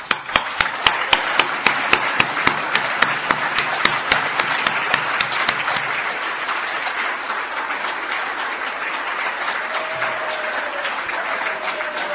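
A crowd breaks into loud, sustained applause, with sharp rhythmic claps standing out over the dense clapping for the first half before it settles into a steady, even roar.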